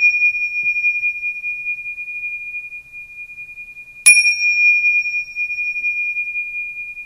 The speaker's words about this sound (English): The lights are dimmed, and she begins by clinking the small cymbals to begin the process.